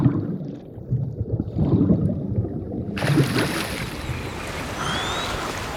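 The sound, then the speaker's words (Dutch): Parrotfish grinding up coral with their beaks on an underwater coral reef: a dense run of low, gritty scrapes and crackles, joined about halfway through by a steady, bright wash of water noise. “En dus vermalen ze het koraal met hun bek.”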